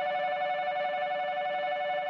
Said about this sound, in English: When I was a student in Japan in 1988, a shrill beeping noise used to signal all aboard.